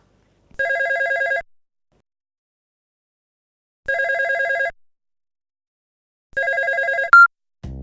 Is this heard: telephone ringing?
yes